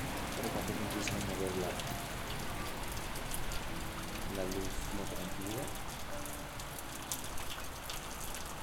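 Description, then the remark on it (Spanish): Steady rain hisses and patters continuously, with scattered sharper drop taps across the constant wash, while faint, indistinct voices murmur beneath it. “la cual se combina con la escucha de fenómenos naturales como la lluvia, el ir y venir de vendedores por las calles, el estar atenta de todas esas atmósferas, todas esas expresiones sonoras que bañan las calles día a día”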